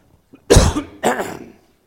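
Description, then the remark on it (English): Two harsh, forceful coughs caused by allergies, in quick succession with a brief pause between them and no talking. “I do not have COVID. It is called allergies, okay?”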